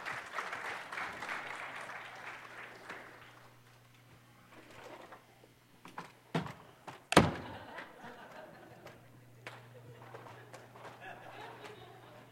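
An audience at Mission Point claps for one of its newest members in a dense patter for a few seconds, then it thins out into scattered sounds, with one sharp, loud thud partway through and a low steady hum underneath.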